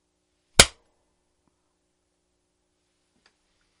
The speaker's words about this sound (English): We heard me clapping. Way to spoil the magic.